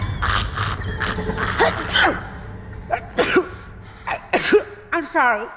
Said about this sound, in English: I'm sorry. I just, whenever I get nervous, I sneeze. And I know it sounds crazy, but it's a real medical thing. It's called stress-induced rhinitis.